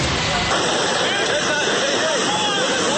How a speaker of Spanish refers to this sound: Los trabajadores de Hidro Ituango corren para no ser alcanzados por la fuerza descontrolada de las aguas del río Cauca.